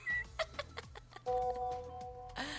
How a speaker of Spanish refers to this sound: Mira, ese pajarito ya no... Ese pajarito que suenas ahí ya no...